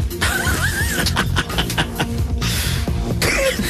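sneeze

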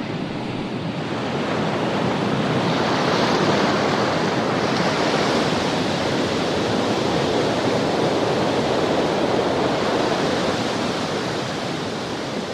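ocean waves and surf

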